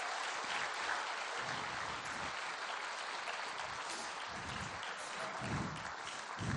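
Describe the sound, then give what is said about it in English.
A crowd applauds steadily for several seconds, a dense, even wash of clapping with no voices standing out and no break in the sound. “All right, can we give our whole people an applause?”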